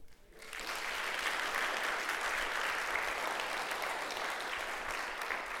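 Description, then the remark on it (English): A Presbyterian audience bursts into applause after a brief quiet moment, a dense, steady wash of many hands clapping that holds at a strong, even level for several seconds with no talking over it. “We don't often applaud because the Presbyterian spirit doesn't usually allow it, but this is the exception.”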